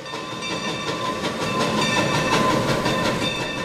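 A train rumbles steadily along the rails, fairly loud, with a rhythmic clickety-clack of wheels over track joints and a faint metallic whine running through it. No voices.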